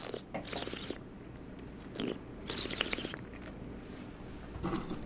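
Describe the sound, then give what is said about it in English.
Wet, airy slurping as a wine taster draws air over a mouthful of Oregon Chardonnay to volatilize its aromas, in several bursts of hissing, gurgling noise over about five seconds, with no talking. “he explains what that slurping is all about”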